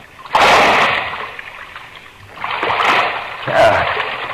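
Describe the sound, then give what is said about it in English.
A heavy splash as a person drops down into waist-deep water in a dark sewer, followed by a couple of rougher sloshing surges as the water churns and settles. No talking. “I don't know how deep the water is. Here it goes.”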